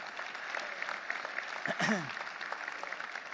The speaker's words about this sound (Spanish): Dé un aplauso al Señor que se lo merece.